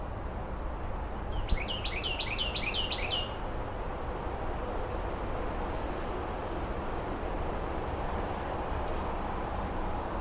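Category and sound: bird, blue jays calling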